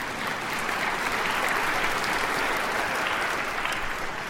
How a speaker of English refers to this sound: yeah, you can clap if you want.